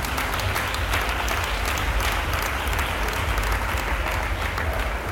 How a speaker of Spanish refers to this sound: Así que, por favor, os pido un aplauso enorme también para ellos, que han sido y seguirán siendo vuestros mayores apoyos.